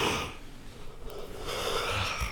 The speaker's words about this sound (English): That's what happens when you yawn.